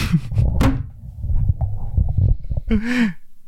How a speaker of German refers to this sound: Ich dachte, wir lassen einfach das Mic-Drop als letztes Geräusch. Warte, ich mach nochmal eins, vielleicht klingt das irgendwie noch mehr.